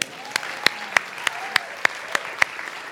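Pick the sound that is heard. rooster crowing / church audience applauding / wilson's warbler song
church audience applauding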